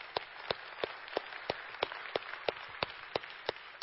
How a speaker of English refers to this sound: Thank you, Mike. Give Mike a round of applause.